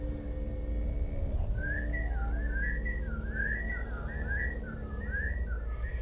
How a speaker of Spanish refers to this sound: Los silbidos volvieron.